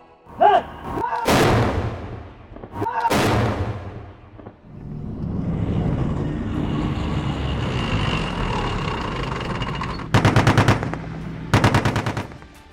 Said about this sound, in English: UNIFIL and the Lebanese Army recently conducted a joint exercise called Steel Storm, combining armored vehicles and live fire.